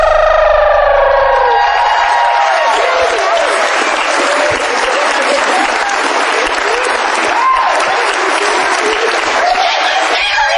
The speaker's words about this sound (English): How about a nice round of applause for Mr. and Mrs.